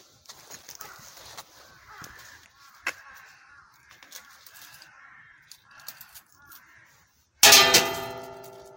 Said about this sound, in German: so jetzt bin ich genau hier vor einem kleinen Schrein und mach mal der Schreingott, der Kami, schläft zwar schon, aber ich rüttel trotzdem mal hier an der Glocke. Ich muss also an der Glocke rütteln, am besten noch ein kleines Geldstück hineinwerfen.